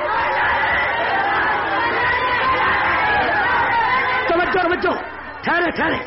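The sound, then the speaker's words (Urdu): A large crowd chants slogans in a loud, dense wash of voices that fills the whole clip, with a few stronger sustained shouts rising above it near the end. “نعرے کم لگائیں بات زیادہ سمجھیں.”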